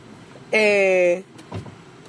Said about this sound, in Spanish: Estamos en el carro, mi hermano.